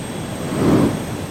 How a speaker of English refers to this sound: What's that? Is that a bird? Don't be silly. It's too fast for a bird. It's more like a plane, a jet more like.